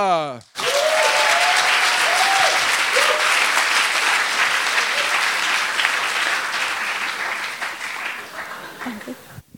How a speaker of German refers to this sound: Und die erste Starterin für die Dichterschlachtschüssel in Schweinfurt trägt den wundervollen Namen und auch für sie einen megamäßigen Überduper-Hyper-Applaus